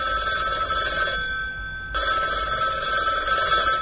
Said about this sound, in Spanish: y ahora, teléfono, a ver.